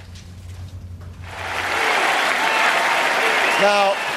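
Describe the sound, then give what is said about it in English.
A large crowd bursts into loud, sustained applause and cheering, building quickly after a quieter low hum, with dense clapping and scattered shouts and whistles rising above it. “We're about to see cheers get much, much louder.”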